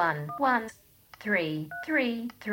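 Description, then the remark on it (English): Two short electronic phone keypad tones beep about a second and a half apart as a number is typed in, each clipped and bright, while a synthetic-sounding voice speaks almost continuously around them. “Now, I'm going to type in a number, just a few numbers.”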